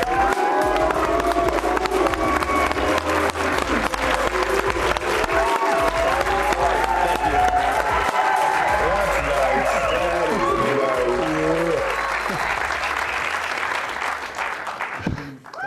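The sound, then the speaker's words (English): A large crowd at the Marriott Center cheers and applauds as a player from Bamako, Mali, is brought in, a dense, steady roar of clapping and shouting voices that holds loud for about fifteen seconds before tapering off at the end. “When he makes a great play, you will hear the sound of foos fill the Marriott Center.”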